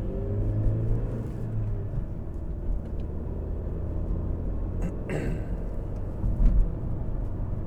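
A small Volkswagen Beetle (Bug) with electric windows rumbles steadily while driving, a low continuous engine drone with road noise, broken briefly by a short higher whoosh partway through. No one speaks.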